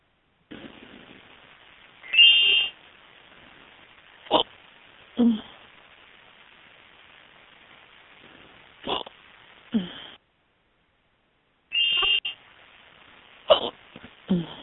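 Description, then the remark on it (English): Two short, bright instant-message alert chimes from incoming messages ring out about ten seconds apart over a faint hiss, with a few brief thumps and gulping hiccups scattered between them. No one speaks. “Can you hear everybody IMing me?”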